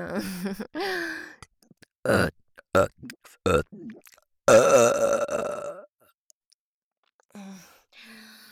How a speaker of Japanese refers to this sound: 最後にもう一発、特大ゲップを鼻っ面に。危ない危ない、勢い出すぎてゲボっちゃうところだったわ。